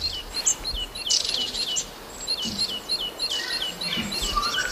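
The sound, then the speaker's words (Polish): A great tit sings in spring, repeating bright, high-pitched two-note phrases in a steady rhythm, with other faint chirps and a soft hiss of background around them. No one speaks. “Tak brzmi sikora bogatka wiosną, moi drodzy.”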